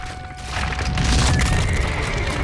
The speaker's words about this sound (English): As she rides Max onto the bridge, the stone cracks under his hooves.